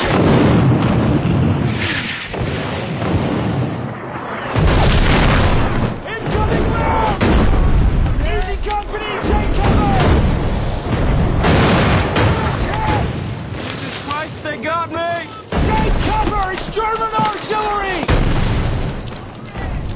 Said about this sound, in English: Get out there where you can spot the fall of those rounds.